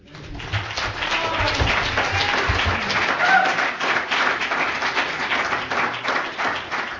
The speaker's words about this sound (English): All right, another round of applause. Thank you.